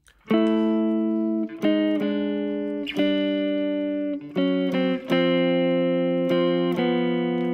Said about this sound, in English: See, so there I took through. I went and played those guide tones as I showed you earlier.